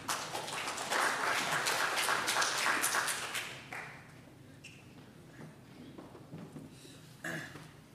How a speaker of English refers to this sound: You might want to hold your applause until afterwards.